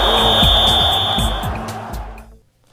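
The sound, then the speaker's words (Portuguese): A referee's whistle sounds one long, steady, shrill blast lasting about a second and a half, opening the sports program 11 Minutos, over a loud, rumbling background with low thumps that fades away into quiet. “Bom, ao som do 11 minutos, ao som do apito, começa o nosso 11 minutos.”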